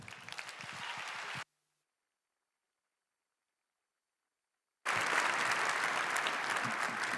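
An audience claps in two dense bursts of applause, a brief round that cuts off into silence for a few seconds before a second, louder wave of clapping resumes. No one speaks.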